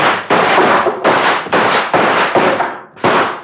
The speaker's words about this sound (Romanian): La comanda mea am descărcat o salvă. Atențiune. Foc!